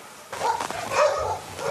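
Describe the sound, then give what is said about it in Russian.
Dogs barking in a short, irregular burst, a few sharp barks and yips overlapping over a steady background hiss, with no one speaking. “Собак сколько много.”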